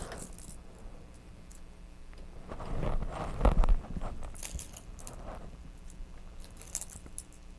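A ring of keys jangles in several irregular bursts as it is shaken in front of a baby, bright metallic clinking, with brief pauses between shakes and no one talking.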